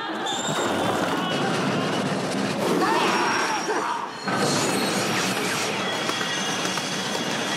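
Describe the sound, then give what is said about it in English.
Railroad train cars coupling together, a sound also used in Temple of Doom and Raiders: loud, dense metallic clanking and grinding that continues throughout, with a brief dip in the noise about halfway through. “there is train couplings, the sound of trains being coupled together, mixed in, which were also heavily used in Temple of Doom in the minecar chase and the truck chase in Raiders.”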